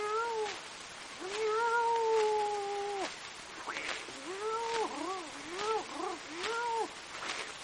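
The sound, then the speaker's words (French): A human voice imitates cats caterwauling on rooftops at midnight: a long, drawn-out yowl followed by a string of shorter, wavering, rising-and-falling meows, loud with no other sounds. “La chasse à minuit sur les toits.”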